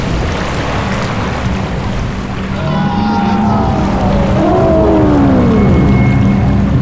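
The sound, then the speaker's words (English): A steady, dense roar of rushing water, poured out from a glass, swells slightly louder over several seconds, with low, sweeping whale-like moans gliding through it. No one speaks. “Water poured from the glass like a tidal wave.”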